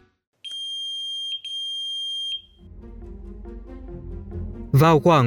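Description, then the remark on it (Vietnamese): A Hezbollah group's pager in Lebanon, at 3:30 pm on 17 September, beeps for a few seconds as it receives a message, with a shrill, steady, loud electronic tone in two long back-to-back pulses, before voices take over and a sudden loud burst hits near the end. “3:30 chiều ngày 17 tháng 9, theo giờ Liban, máy nhắn tin của nhóm Hezbollah phát ra tiếng kêu bíp bíp vài giây, tín hiệu cho thấy máy nhận được tin nhắn của một vị lãnh đạo.”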